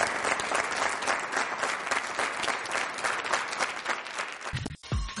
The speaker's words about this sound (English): let's give Marcus Cannon a big round of applause